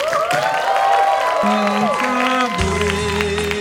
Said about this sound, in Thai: ขอเสียงปรบมือโห่ร้องกีดการ์ดอย่างยิ่งใหญ่ให้กับเจ้าของบาร์คนต่อไป